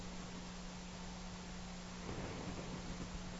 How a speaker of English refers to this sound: the hum of the highway, it's amazing that it comes to us, isn't it? That it, like, that we have ears, and that the sound of like rubber turning on a road makes this distant hum pretty far away, and that actually comes into a meditation hall.